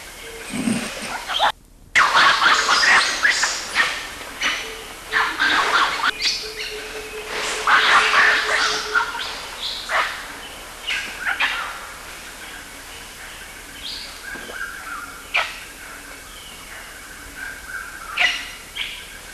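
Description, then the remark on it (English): Loud, overlapping animal wah calls and shrill screams erupt in rapid bursts during an intergroup conflict between two groups, several voices clashing, then thin out into scattered sharper cries toward the end. “These are Baidya's wah calls”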